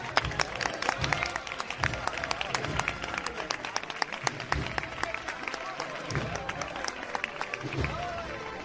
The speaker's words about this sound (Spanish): Los aplausos para la cuadrilla de costaleros que sigue avanzando por esta cuesta de las Tres Caídas